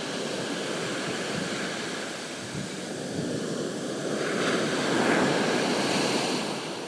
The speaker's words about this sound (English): It's early morning here in Monterey. I'm down at the beach. Can you hear the ocean?